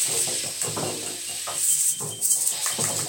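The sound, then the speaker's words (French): Steady, dense patter of raindrops, a crackling hiss spread across a wide range with small irregular taps and slight swells in loudness, with no voices. “Écoutons le chant de la pluie.”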